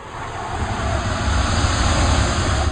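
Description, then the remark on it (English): A loud, rumbling jet-like roar of a prototype flying suit taking off inside a workshop, making the workshop vibrate a little, swelling slightly in the first second and then holding steady throughout, with heavy low-end rumble and no voices. “There is a roar, and the workshop vibrates a little under Dummy's wheels as Master Tony takes off in the prototype suit”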